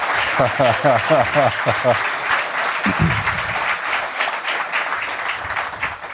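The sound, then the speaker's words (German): A live audience at the Datenspuren event in Dresden applauds steadily, a dense patter of many hands clapping throughout, with voices briefly speaking over it at the start. “Ja. Das ist Wir haben ungewohnt. Publikum. Ja, Publikum.”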